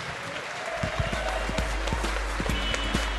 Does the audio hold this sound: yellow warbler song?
no